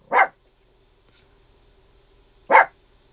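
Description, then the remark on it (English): A small female pet dog barks twice near the end of a sermon, two sharp, high yaps a couple of seconds apart, fairly loud, with near silence and a faint steady hum in between. “My little doggie's barking now.”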